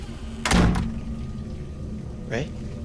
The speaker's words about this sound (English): The bathroom door has shut.